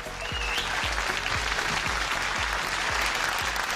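Steady, dense applause for a guest on the show Desenchufados, many hands clapping at once in a sustained, fairly loud wash of sound with a few sharper individual claps standing out.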